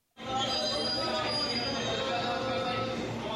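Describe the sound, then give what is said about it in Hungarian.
A maglev train pulls into a station in suburban Tokyo, Japan, at 7 in the morning, with a steady, loud whirring rush and faint high whining tones, sustained throughout after a brief silent start, with a soft murmur of people queued on the platform beneath. “Vasútállomás Tokió külvárosában, reggel 7 óra. Megérkezik a mágnes vasút.”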